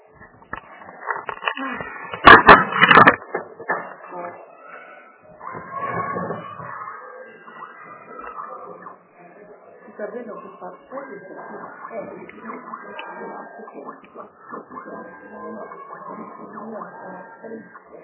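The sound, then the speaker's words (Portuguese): Plastic clicks and rattles as a toner cartridge is pulled out of a printer to check for black paper inside it, with a loud clatter early on, then softer scraping and handling noises while muffled voices talk. “Tira ela e vê se não tem um papel preto ali dentro do toner.”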